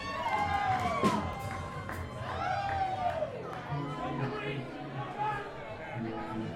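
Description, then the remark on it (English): A live audience at a performance roars with cheering and excited chatter, a dense wall of many voices with whoops rising above it, steady and loud throughout. “I just gotta say, you guys are the best crowd we've ever played in front of.”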